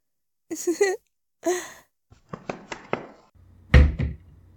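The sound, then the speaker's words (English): Someone tries a locked door: a few straining grunts and breaths, then quick rattling clicks of the handle and a heavy thump as the door is shoved. “Oh, mister, that door is locked.”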